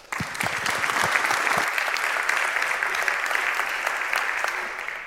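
An audience breaks into steady applause welcoming a speaker before a talk, a dense wash of many hands clapping that starts abruptly and holds at an even, fairly loud level for several seconds before easing slightly at the end.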